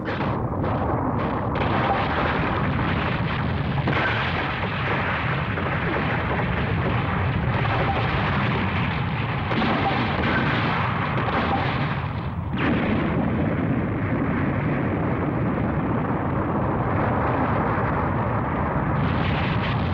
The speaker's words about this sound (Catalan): El robot comença a clavar cops de puny. Va fent forats a la façana de la torre, un al costat de l'altre, fins que el forat és tan gros que la torre s'inclina, cau i s'esfondra.